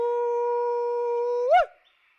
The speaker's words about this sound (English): That shout, an Australian bush call used to pinpoint a person's location, is not coming from any of Brian's men.